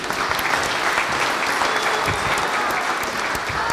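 A crowd applauds steadily, a dense, even clatter of many hands clapping at once that holds at the same loud level for the whole stretch without fading.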